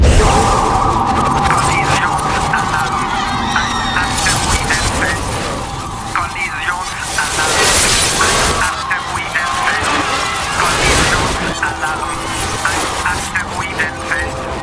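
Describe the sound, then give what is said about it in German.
Warning sirens wail steadily aboard a spaceship through a dense, loud wall of rumbling machinery and sharp crashing impacts, the alarm tones sustained throughout. “Warnungen, Sirenen, 10.000 winziger Körper, dazwischen viele hundert großer Brocken, Einschläge von gewaltiger Wucht.”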